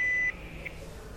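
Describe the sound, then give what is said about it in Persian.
A single steady electronic tone from an answering machine, a clear high-pitched beep lasting about a quarter second, then cutting off into a low background hum. “با سلام، لطفاً پس از شنیدن صدای بوق پیغام بگذارید.”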